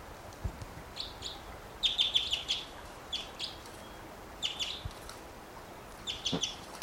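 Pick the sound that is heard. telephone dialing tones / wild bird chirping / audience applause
wild bird chirping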